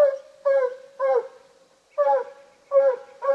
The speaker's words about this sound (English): When he settles down and goes to chopping steady, that's when you know he's tree. Meaning he's chased a raccoon up a tree and is barking up after it. Not distracted by a squirrel or armadillo, but zeroed in on a coon.